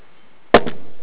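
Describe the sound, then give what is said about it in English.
After a short silence, a hand slaps into water in a basin, two quick splashes in rapid succession, followed by a faint dripping tail. No one speaks. “I need to touch that water again and feel the power of the Holy Spirit that has been made available to each of us through our baptism.”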